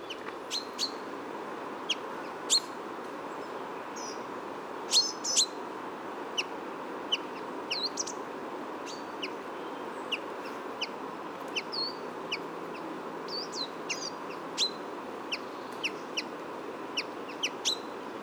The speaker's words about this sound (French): Donc, pinçons des arbres, cri de cohésion. On a entendu les deux cris différents, le cri doux et le cri choqué, pink, pink, le pink. Donc, le cri vraiment émis en migration.